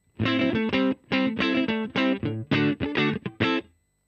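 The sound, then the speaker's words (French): A funk guitar riff played alone without reverb: short, choppy chord stabs in a tight syncopated rhythm, fairly loud, each note cut off cleanly with no reverb tail. “Si je vous joue à peu près le seul riff un peu funk que je connais de …, ça nous donne ça.”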